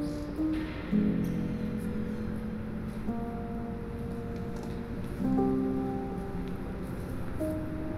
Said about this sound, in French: Ces bruits sont empêtrés dans les bruits génériques des travaux, des voitures et du vent de Grenoble.